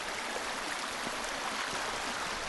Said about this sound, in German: In der Nase kitzelt der Geruch von Schwefel und in den Ohren rauscht das Meer.